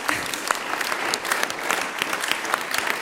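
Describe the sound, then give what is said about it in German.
An audience applauds steadily for a woman who has just completed a climb in a harness, a dense wash of many hands clapping at once with scattered sharper claps standing out, sustained and fairly loud throughout. “das ist Ihr Applaus, sensationell gemacht.”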